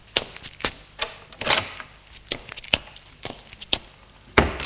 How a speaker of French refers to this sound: Au premier se trouve un petit couloir où il y a trois portes l'une à côté de l'autre. Lucie ouvre la porte du fond.